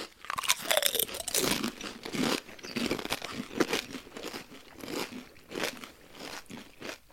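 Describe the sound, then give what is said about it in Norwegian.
Loud crunching of potato chips being chewed by several people, each with one chip, with repeated crisp bursts and crackles over several seconds and no talking. “Alle klar med et flak? Ja. Ok. Klar for deg, gå.”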